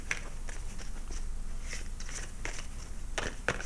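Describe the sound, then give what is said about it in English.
A deck of cards being shuffled before a card is flipped: a steady run of quick, crisp papery flicks and riffles over low background hum, with a couple of sharper snaps near the end and no talking. “I'm going to flip a card because I haven't flipped a card I have to shuffle for a second.”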